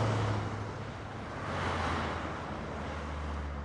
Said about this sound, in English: Outside, traffic roars down Vermont Avenue.